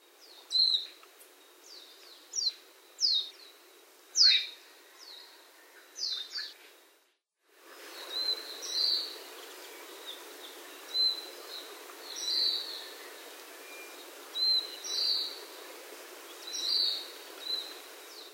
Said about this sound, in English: The calls of the white eye should be learned early on, as it is easier to identify the bird by its call than by visual appearance. Here is Majuro's distinctive down-slurred plaintive note.